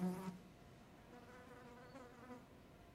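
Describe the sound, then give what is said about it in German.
A fly buzzes steadily, circling in the middle of a room beneath the ceiling, its drone wavering in pitch, with a soft hum and faint background noise underneath and no talking. “Sie folgt mit ihren Augen der Fliege, die in der Mitte des Raumes unter der Decke einen endlosen Stern fliegt.”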